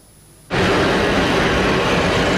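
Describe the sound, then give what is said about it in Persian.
After a brief near-silence, a loud, steady jet-engine roar bursts in abruptly and holds at full strength as an airplane takes off, its wheels leaving the ground. “چرخ هواپیما از زمین کنده می شود، دل آنها از وطن.”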